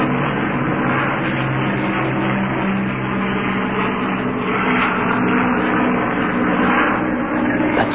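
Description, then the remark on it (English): A squadron of Lancaster bombers roars during takeoff from an aerodrome called Langer in Nottinghamshire, Britain: a loud, unbroken drone of piston engines with deep, humming tones that swell slightly but never fade, with no voices. “The roar of a squadron of Lancaster bombers taking off from an aerodrome here in the heart of Britain.”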